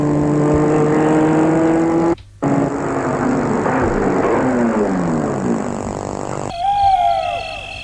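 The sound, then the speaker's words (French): A car engine hums steadily as it drives along a small road through a forest late at night, its pitch rising and shifting, broken by a brief cut, with a different, hooting or whistling tone at the end. “Il roule sur une petite route en pleine forêt.”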